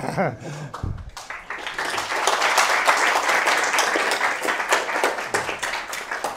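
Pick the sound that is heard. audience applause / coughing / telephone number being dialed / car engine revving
audience applause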